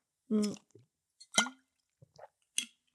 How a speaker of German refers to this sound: Apropos Wasser, ich trinke jetzt hier direkt meinen Schluck Wasser.